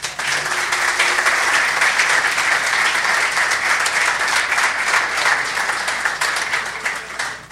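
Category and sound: crowd, audience applause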